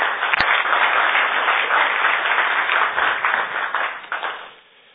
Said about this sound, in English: All right, good. So, round of applause for Team 3, please.